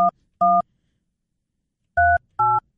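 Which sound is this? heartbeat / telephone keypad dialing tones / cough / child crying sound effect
telephone keypad dialing tones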